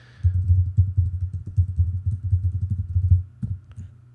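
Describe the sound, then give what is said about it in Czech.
Rapid keyboard typing as a password is entered on a computer keyboard to log in to an ASP.NET MVC web application, a steady run of soft, low clicks and taps for about three seconds, followed by a couple of firmer keystrokes, with no voices. “Zadám heslo.”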